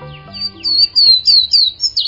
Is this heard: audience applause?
no